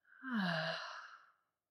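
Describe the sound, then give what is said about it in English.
A single, long, breathy exhale through the mouth, soft and close, with a faint voiced sigh at the start that fades out over about a second. “Breathing out the mouth.”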